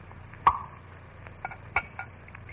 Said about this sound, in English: Bless my eyes, if this glass ain't gone and filled itself to the brim with ginger ale.